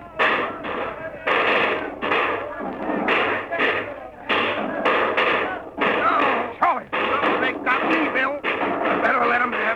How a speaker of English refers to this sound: That's them. Get down behind your animals, men. We're going to shoot it out with them.